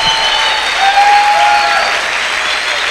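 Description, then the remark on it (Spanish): A church audience applauds the Lord steadily, a dense wash of clapping filling all three seconds at an even loudness, with a faint high tone or whistle rising briefly through the middle. “Denle un aplauso al Señor porque Dios es abundante.”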